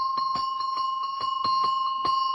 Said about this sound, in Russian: Встречаются колокольчики, которые в сечении поперечном имеют не круг, а овал. Вот такие колокольчики относятся к числу подшейных, и их почему-то принято было называть цыганскими.